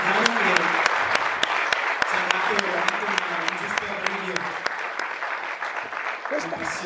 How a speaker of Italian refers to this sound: Ringraziamo davvero con un bel applauso.